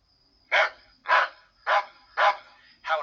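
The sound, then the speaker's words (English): A small dog yaps five times in a steady rhythm, each sharp, high-pitched bark evenly spaced and loud against a quiet background with a faint steady tone. “The yapping dog.”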